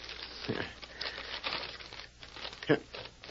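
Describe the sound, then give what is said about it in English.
An envelope is torn open and paper unfolded: steady crinkling and rustling, a soft rip near the start, then a sharper crackle of paper near the end. “Let's get that envelope.”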